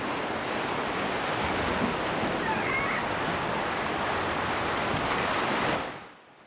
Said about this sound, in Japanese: 波に飲まれて行っちゃえばいい。大きな波があなたを飲み込む。